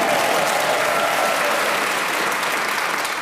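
A studio audience breaks into steady, sustained applause for Dave Gorman during a game, a dense wash of clapping hands that holds at an even loudness for a few seconds with no voices over it.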